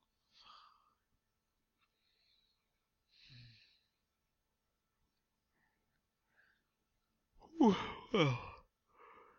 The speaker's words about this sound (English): Well, I'm gonna leave you here because just breathing and yawning might not be the most interesting thing to listen to.